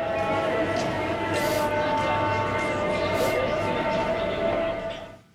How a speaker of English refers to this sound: So here's a recording of a market in Morocco.